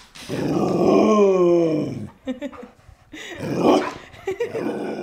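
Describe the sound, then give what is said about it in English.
Luna, a 90-pound Border Collie Great Pyrenees mix dog, lets out a long, drawn-out groaning growl at home in Brooklyn, fairly loud, followed by a few shorter grunts and huffs. “After the event, I came back home all the way back to Brooklyn, opened the door, and there waiting for me was my dog, Luna.”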